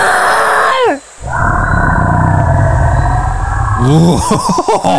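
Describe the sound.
A brief falling cry gives way to a long, loud, deep Tyrannosaurus Rex roar that rumbles steadily for nearly three seconds, then breaks into shorter wavering, harmonic calls.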